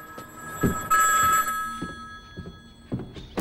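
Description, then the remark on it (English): A telephone bell rings inside a house with a bright, shrill trill that peaks in one loud burst, its tone lingering throughout, while a few dull low thumps sound around it. No one speaks. “John's counting the money on the sidewalk when the phone rings inside the house.”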